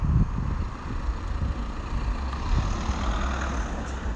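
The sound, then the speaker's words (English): A car approaching on a busy little road with houses, on a sunny, warm summer day; its engine and tyre rumble steady and fairly loud against a background of broad traffic noise, with no one speaking. “Let's see what this car's going to do.”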